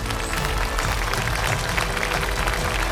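A crowd applauds steadily to welcome Markus Baulig onto the stage, a dense wash of many hands clapping at once, holding an even, fairly loud level for the whole stretch with no voices standing out.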